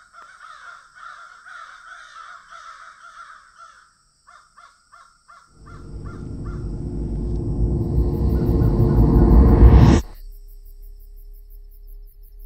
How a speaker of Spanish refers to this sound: Cuando llegamos al bosque, todo parecía normal, a excepción de un par de cuervos que revoloteaban sobre nuestras cabezas.